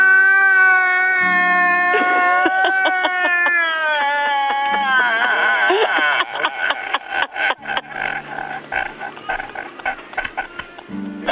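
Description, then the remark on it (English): A man crying loudly over the phone, with a long wavering wail that breaks into choppy, gasping sobs toward the end. No clear words are spoken. “There's a man crying on the end of the phone.”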